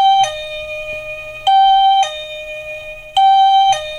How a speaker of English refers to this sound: So I opened the front door. No one there, of course. Doorbell's just going off on its own. Just continuously. Just that noise.